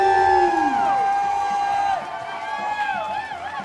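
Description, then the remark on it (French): A crowd of event participants cheers and whoops for the event organizers at the end of the day, many voices rising and falling in pitch, loud at first and easing after two seconds, with scattered clapping beneath. “J'aimerais que l'ensemble des participants applaudissent les événementiels pour cette journée.”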